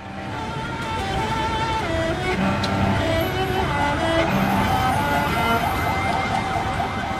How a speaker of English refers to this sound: Captured here in a cell phone video, which you can find on YouTube, you can see a bombed out building, emergency workers, you can hear sirens and traffic in the background.